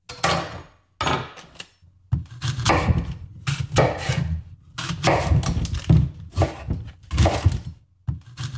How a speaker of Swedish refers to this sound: Det lät som skärbräda och kniv, tycker jag.